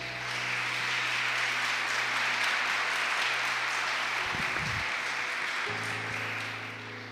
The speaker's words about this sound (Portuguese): Você pode dar um beijo na sua Bíblia e aplaudir bem forte o nome de Jesus.